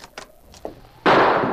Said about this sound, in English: As the door opened, a shot rang out.